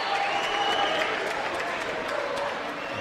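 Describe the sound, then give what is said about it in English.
A large basketball home crowd cheers and claps for the Skiers in a steady, continuous roar that holds for the whole moment, with no single voice standing out, during a 30-second timeout called by Englewood after the Skiers pull within three. “Listen to the Skier crowd. Now they're seeing some life in the team.”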